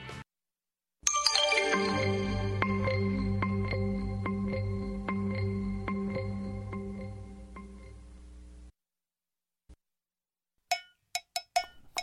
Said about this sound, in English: We have a request for this one. This is a great cruising song. That's what it was built for.